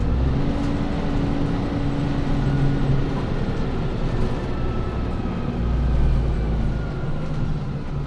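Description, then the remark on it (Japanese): A steady low engine drone fills the inside of a city bus, with a humming whine and shifting rumble as the bus slows toward the Nishi-Ichinoe 4-chome stop after a stop request. No one speaks. “次、止まります。危険ですので停車してからお立ちください。”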